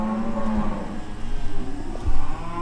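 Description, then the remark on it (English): A cow lets out a low, drawn-out moo over a steady hum of background noise, followed by softer rustling and faint thumps as the sound fades; cattle in a barn at the end of a block on Main Street in Lexington, Texas, around 3 in the morning. “Street lamps are furnishing the only light at 516 Main Street, and you can hear cattle in a barn at the end of the block.”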